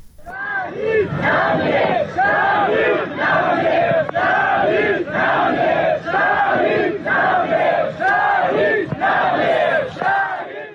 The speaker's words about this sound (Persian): اما در ایران پیکر حمید مرادی، وکیل دادگستری و فعال محیط زیست که در جریان مهار آتش سوزی کوه آبیدر سنندج جان خود را از دست داد، با حضور گسترده مردم و در میان شعار شهید نمی میرد تشییع و به خاک سپرده شد.